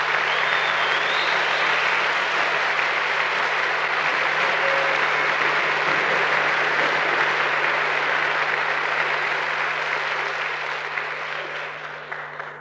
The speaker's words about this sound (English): Let's give a nice round of applause and bring to the microphone,